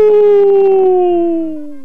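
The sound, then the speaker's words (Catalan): A person howls like a wolf, one long, loud, sustained vocal note that slowly slides downward in pitch and fades slightly at the end, with no other talking. “Es va posar al mig, va mirar cap a un costat, va mirar cap a l'altre, i aleshores va fer aquella senyal, aquell senyal que fan els llops, allò...”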